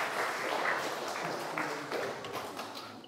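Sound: audience round of applause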